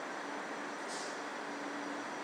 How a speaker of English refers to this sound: The train you can hear leaving now, I think, is the 5 minutes past. Possibly.